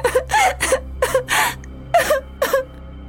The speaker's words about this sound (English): Theo leaves the room and walks out of the apartment. Roselle starts crying.